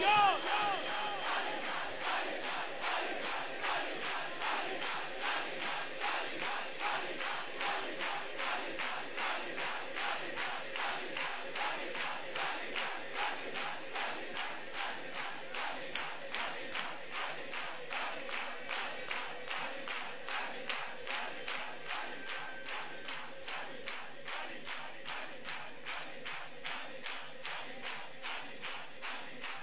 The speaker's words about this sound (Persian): یک دقیقه هر کی هر جوری میتونه صدا بزنه، علی علی علی علی با فریاد.